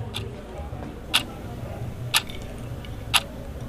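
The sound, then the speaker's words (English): A clock ticks steadily about once per second, four crisp, fairly quiet clicks at an unhurried pace over a low, constant background hum. “Your clocks are all very relaxed.”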